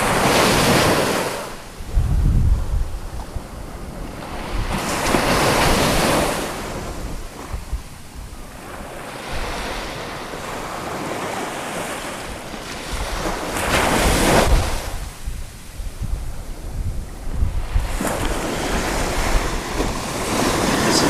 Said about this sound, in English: We will return now to the sound of the waves as recorded last night at Ocean Park, Maine.